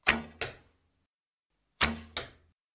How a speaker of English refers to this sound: Each man fired his first arrow.